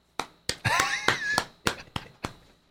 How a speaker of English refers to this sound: I had to clap at that one.